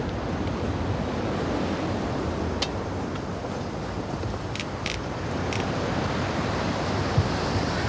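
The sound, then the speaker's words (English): Strong wind roars in a steady, dense rush that holds constant for the whole stretch, with a few faint brief ticks on top. No voices. “Wind ripping up. I can feel it through my clothes.”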